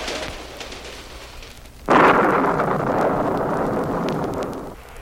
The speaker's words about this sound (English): The passing of a train.